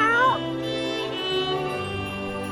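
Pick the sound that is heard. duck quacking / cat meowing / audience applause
cat meowing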